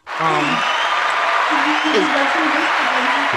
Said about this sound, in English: Everybody, our man. Our man, clap for him. Round of applause.